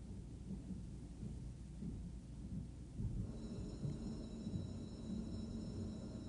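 Dense, steady rainfall pours throughout with a deep, rolling rumble of thunder underneath, building slightly louder in the second half; no voices, just the continuous wash of a storm.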